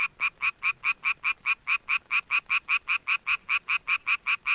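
A male Japanese tree frog's mating call, made to attract females: a steady, rapid train of raspy, nasal pulses, about five per second, loud, running unbroken with no voices.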